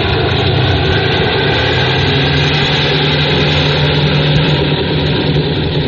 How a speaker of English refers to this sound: Well, watch this one. I twirl my tail around like a helicopter.